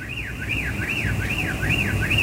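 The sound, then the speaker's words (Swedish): A common blackbird at Redbergsplatsen in Göteborg imitates a car alarm, repeating a steady rising-and-falling whooping tone about five times in quick succession, fairly loud and clear over a low rumble of background traffic. “Nej, det är inget bilarm som låter. Det är en koltrast.”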